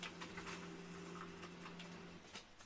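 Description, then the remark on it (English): A printer under a desk runs quietly, a steady motor hum under repeated mechanical ticks and clicks as it feeds and prints notes, then the hum cuts off near the end. “And I'm going to print this. This is about as low tech as you can go. My printer's under my desk.”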